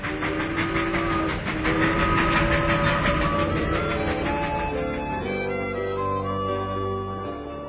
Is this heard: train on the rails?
yes